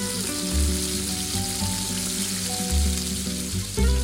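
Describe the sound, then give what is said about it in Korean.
Striploin steak trimmings seasoned with salt and pepper sizzle in a hot, lightly oiled pan, a steady, bright crackling hiss lasting the whole clip, with low droning tones underneath and no voices. “고기가 팬에 닿자마자 놀랐다는 듯 치익하는 소리를 낸다.”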